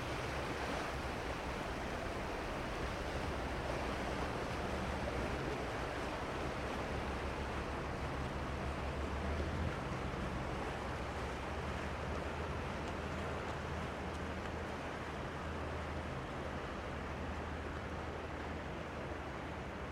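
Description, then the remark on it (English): Vaporetto water buses churn past on open water in the darkness, a steady wash of waves and engine rumble holding for the whole stretch, with a low droning hum beneath the constant splashing surf. “The vaporettos, or water buses, pass us by as we stand bewildered in the darkness.”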